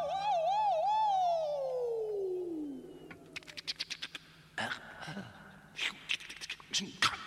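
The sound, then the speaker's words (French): An ambulance siren warbles loudly for a couple of seconds, then its pitch slides steadily down as it winds off, followed by a scatter of sharp clicks and knocks. “Tranquille, j'entends la sirène.”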